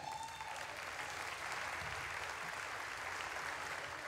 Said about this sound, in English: The people clapping are the ones who work there.